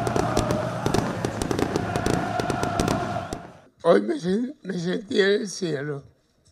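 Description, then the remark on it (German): Rapid fireworks bangs crackle over a loud, roaring crowd of chanting Gimnasia La Plata football fans welcoming Diego Maradona as new coach in La Plata, Argentina, for about three seconds, then the noise drops away and a man speaks alone. “Feuerwerk und Sprechchöre, die Fans haben Diego Maradona euphorisch in La Plata empfangen.”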